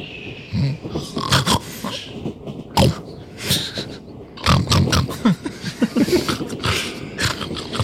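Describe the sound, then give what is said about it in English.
Several grown men on a train make loud, rapid pig-like oinks, grunts and snorts, overlapping in a rough, busy jumble of imitated pig noises with no clear speech. “Honey, those aren't pigs. Those are grown men. They're making pig noises, my dear.”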